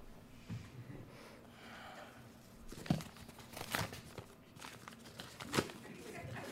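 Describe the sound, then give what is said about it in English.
Rustling and crinkling of paper slips, entries being shuffled before drawing a winner, with a steady low shuffle broken by three sharper, louder crumpling bursts spaced a second or two apart. “I'm gonna pick a winner right now. Shuffle that around real good.”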